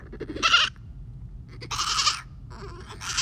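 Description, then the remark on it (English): A person imitates a goat, letting out three wavering, nasal bleats in quick succession, each loud, with short pauses between them. “They don't just all turn their heads around to face me, who is making a goat noise”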